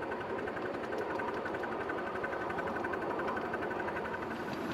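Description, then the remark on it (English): A steam locomotive working hard uphill, its rapid, steady chuffing merging into a continuous mechanical rumble with a faint clanking rhythm. The sound stays even and fairly loud throughout, with no voices. “Steam back on, we're going up the gradient now.”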